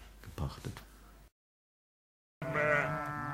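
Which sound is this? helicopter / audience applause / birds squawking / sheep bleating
sheep bleating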